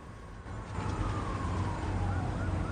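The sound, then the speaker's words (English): Police sirens wail, their rising and falling tones drawing closer and louder over a steady low rumble of traffic or idling engines. “They both look towards the sound of the approaching sirens.”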